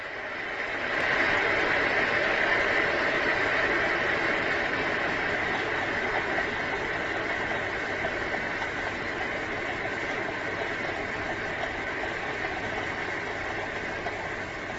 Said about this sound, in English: can also place your hand on top of the coffee machine to tell when it stopped boiling. You won't feel any movement, or you won't feel the vibrations of the coffee maker under your hand. Now, I can hear it boiling, so I'm just waiting for it to stop.